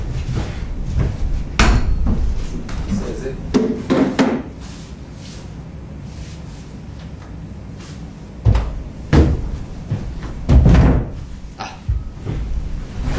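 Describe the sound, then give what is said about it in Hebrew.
A speaker shifts and swaps his chair for another, with a series of wooden knocks, bumps and scrapes in short clusters separated by a quieter pause, and no one talking. “אני אעשה פה מעשה חשוב, אני אחליף כיסא.”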